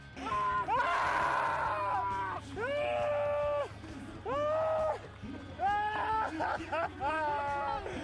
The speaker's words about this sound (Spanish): Una competición deportiva tiene que ser muy especial y muy dura para que quien la gane lo celebre revolcándose por el suelo y gritando así.